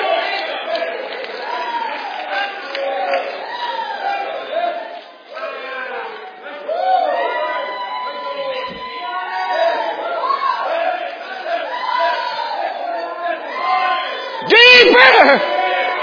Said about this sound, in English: Some of you haven't ever shouted before, but you're shouting now.